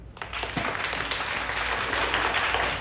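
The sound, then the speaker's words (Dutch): An audience breaks into steady applause for a girl introduced as Little Red Riding Hood (Roodkappie) in a children's game, many hands clapping in a dense, sustained wash that stays loud and even for a few seconds. “Jongens, dat is Roodkappie. Applaus.”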